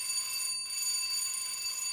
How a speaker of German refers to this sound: Und jetzt läutet es schon wieder.